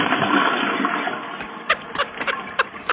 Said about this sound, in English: He waits for the whole flush.